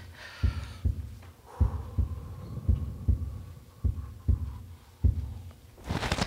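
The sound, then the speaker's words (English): A heavy, low heartbeat of a frightened person inside a tent pounds steadily, about nine pulses in quick succession, over a faint hum before a brief noisy rustle at the end; quiet surroundings with no wind. “Just my heart pounding.”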